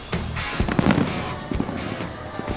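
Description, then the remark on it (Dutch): Fireworks burst repeatedly at a festival, a string of sharp cracks and booming pops over a steady crowd murmur, with several bangs clustered close together and a few spaced apart. “Het vuurwerk klinkt op de achtergrond.”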